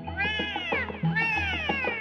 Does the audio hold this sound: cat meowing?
yes